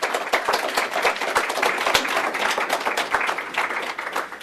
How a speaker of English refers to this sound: So please help me with an applause in welcoming our speaker.